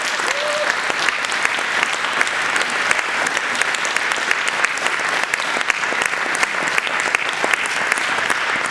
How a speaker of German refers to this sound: Und an der Stelle können wir euch auch noch ganz herzlichen Applaus geben.